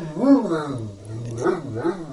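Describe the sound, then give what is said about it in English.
A Great Dane lets out a few deep, drawn-out barks over a low, steady growl, loud, with a brief pause before two more woofing barks. “My dog, my Great Dane, just heard me say so.”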